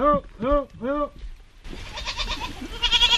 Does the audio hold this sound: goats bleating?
yes